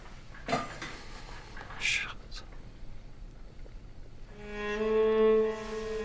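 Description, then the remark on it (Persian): Ceramic clinks and knocks ring out as a teapot, just filled with boiling water, is set down on top of a metal samovar, a few sharp contacts followed by a sustained tonal ring and soft hiss. “خاتون قوری رو آبجوش میکنه، میذاره رو سر سماور.”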